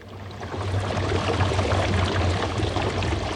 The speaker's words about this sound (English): This is an electrolyzer, a device that splits water into oxygen and hydrogen.